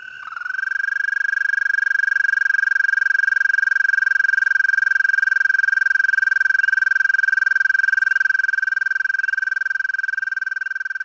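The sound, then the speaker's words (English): An American toad's long, steady musical trill, a single sustained high buzzing note that rings on unbroken for about ten seconds, loud, with no voices. “And here's our American toad.”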